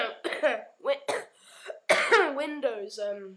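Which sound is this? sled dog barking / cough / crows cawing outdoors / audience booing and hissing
cough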